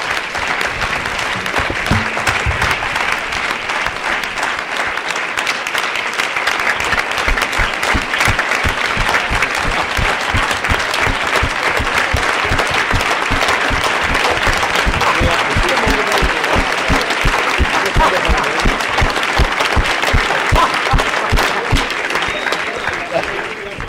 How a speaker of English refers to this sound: I love the way you clapped on that. I love the way you stood.